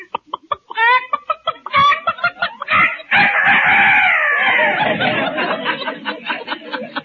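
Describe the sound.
A voice mimics a rooster over the phone as a joke call from "Dr. Rooster" in Mel Blanc's fix-it shop: a string of quick, clucking calls builds into one long, loud, wavering crow, then trails off into more rapid clucks, alone.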